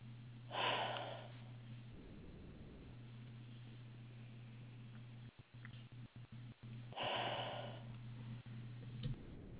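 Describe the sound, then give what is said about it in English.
Two slow, deep breaths in and out, each a loud airy rush, separated by a long quiet stretch over a steady low hum. No one speaks. “I want you to take a couple of deep breaths in and out nice and slow for me.”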